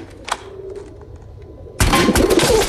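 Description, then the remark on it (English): Soft, low coos from a group of pigeons roosting on top of tall shelves in a DIY store murmur quietly at first, then a sudden loud burst of harsh, rushing noise takes over and continues to the end, like a commotion of wings. “He presses a button and is carried to the top of some lofty shelves where a group of pigeons are roosting.”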